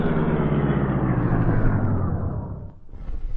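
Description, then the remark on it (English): A car pulls up in the alley behind the Chesley place with a loud, steady engine rumble whose low drone slides down in pitch as it slows, dips briefly, then keeps idling. No one speaks. “While the three crooks were discussing their plans in their car up the street, Britt Reed and Cato arrived in the alley behind the Chesley place.”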